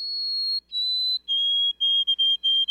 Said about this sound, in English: Some birds have well-known mnemonics, like the "Oh, sweet Canada, Canada, Canada" of the white-throated sparrow.